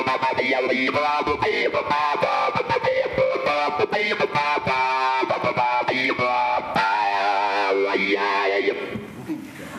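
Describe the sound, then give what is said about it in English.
Loud, heavily distorted electric guitar plays alone, its tone chopped into rapid stuttering bursts and filter sweeps as the player taps resistive touch strips on the guitar's face, which are assigned to filter and volume, before thinning out and fading in the last second. “It's cooler with distortion.”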